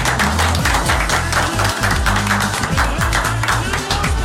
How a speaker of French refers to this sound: Je pense bravo. qu'on peut s'applaudir, je pense. On peut ça. Bravo.